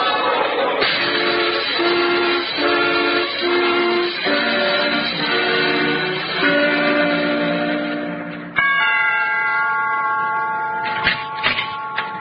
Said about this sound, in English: Stan, look out. There's a train coming.